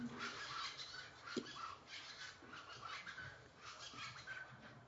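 Faint birds chirp in short scattered calls over a steady hiss of outdoor background noise, with no voices present.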